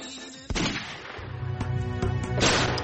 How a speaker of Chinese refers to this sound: 几个月之后，克丘村枪声四起，凌晨2点，19岁的巴兹吓坏了。持续3天的枪林弹雨